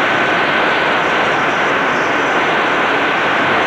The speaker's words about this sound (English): Just that little bit of man's voice in the background of the hiss was WOWO on their 50 kilowatt daytime signal. By playing with the position of the radio, I was able to take down the level of interference from WCHB